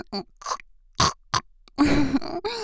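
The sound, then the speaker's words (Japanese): A voice imitates pig grunts: several short, snorting bursts with brief pauses between, then a longer, rougher grunting snort at the end. “ほら豚の真似だよ、こうしてやるの。”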